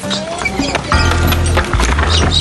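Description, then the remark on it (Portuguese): Horse hooves clip-clop in a steady, uneven rhythm over a busy outdoor background with a low rumble and some creaking tones, moderately loud, as a man rides a horse to deliver fresh milk. “Seu Camilo vai a cavalo entregar o leite fresco que ele mesmo tira.”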